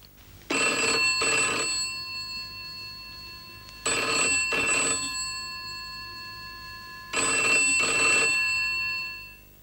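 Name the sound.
telephone ringing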